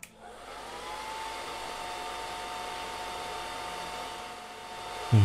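hair dryer blowing

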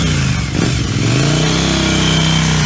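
motorbike engine revving

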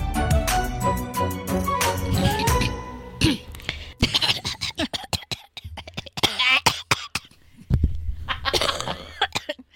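coughing

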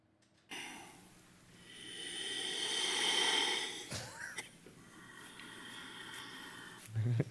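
heavy breathing

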